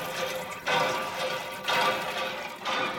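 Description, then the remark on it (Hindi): Water from a hand pump inside Boda village, which some women are struggling to draw water from, spills out in uneven gushes, swelling three times in a steady rhythm as if with each stroke, with a constant watery hiss underneath. “बोड़ा गाँव के भीतर ही ये एक हैंडपम्प है जिससे पानी निकालने के लिए कुछ महिलाएं संघर्ष कर रही है।”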